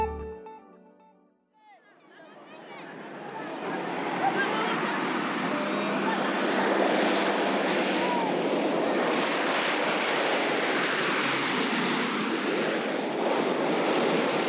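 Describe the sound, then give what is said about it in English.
The broad, rushing engine roar of an International Red Cross propeller plane bringing relief supplies swells over a few seconds, then holds loud and steady as it arrives overhead at the Kagabandoro refugee camp in northern Central African Republic. A brief murmur of voice is heard at the very start. “It's the first plane seen in months, and it's eagerly awaited here in the refugee camp of Kagabandoro, in the north of the Central African Republic.”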